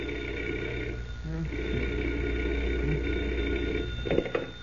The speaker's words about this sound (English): But that certainly didn't mean the end of adventures for Superman, because at 5 o'clock the following morning, Clark Kent was roused from bed by the sound of a telephone ringing.